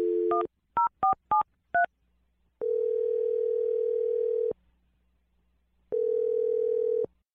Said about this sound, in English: Well, we're going to dial the phone number for you right now and let you make your Awkward Tuesday phone call, okay? Okay, here we go.